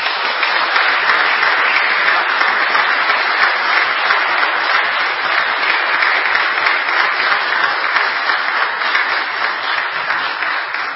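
A church audience applauds the church choir with sustained, dense clapping that stays loud and steady for the whole stretch, with no voices breaking through.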